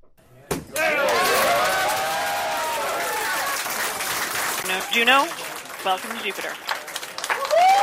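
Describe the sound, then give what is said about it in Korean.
NASA scientists at the Jet Propulsion Laboratory in California burst into loud cheering and sustained applause as the uncrewed Juno probe enters Jupiter orbit, with excited shouts and whoops rising over the clapping, which gradually thins out toward the end. “네, 나사의 무인 우주 탐사선 주노호가 목성 궤도에 진입하자 나사 과학자들이 환호하면서 기뻐하는 소리 들으셨는데요.”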